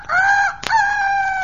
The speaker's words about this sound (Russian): Молодец, мой петушок. Еще раз. Вот так, вот.